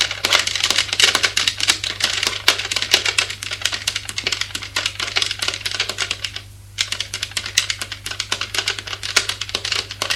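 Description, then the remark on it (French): Rapid, continuous clicking of keys on a keyboard, a woman typing her thesis in quick irregular bursts with a brief pause partway through, over a low steady hum. “Elle le fait asseoir sur une chaise et elle, pendant ce temps, elle tape son mémoire.”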